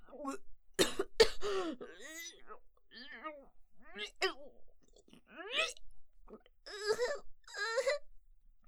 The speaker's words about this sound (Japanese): ダメですね、気張ったら咳が止まらない。